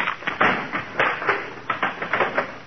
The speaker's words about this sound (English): Oh, darn it. That's the third chair he broke this week.